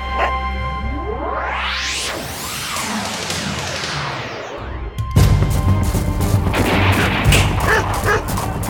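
Sweeping whooshes rise and fall, then dense gunfire erupts as people shoot from all sides in the Tambov region in 1920: rapid, overlapping sharp cracks from several directions, loud and continuous until the end, with a low rumble underneath.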